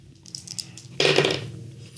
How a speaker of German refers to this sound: Würfel deine Sanity.